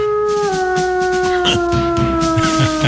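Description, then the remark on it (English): A dog, Bailey the Wonder Dog, howls in a long, sustained tone that slowly drifts downward in pitch, loud, with rough bursts and short yips breaking in underneath. “Bailey, the Wonder Dog.”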